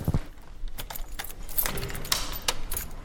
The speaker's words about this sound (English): Can I just record you locking the door? Is that okay?